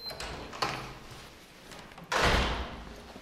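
The heavy door of a large conference room is opened by a receptionist, with a short click near the start, a dull knock, then a loud broad whoosh and rumble as it swings, fading away; no talking.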